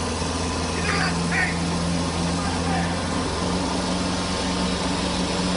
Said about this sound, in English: You hear the tractor flying after the 53-year-old guy.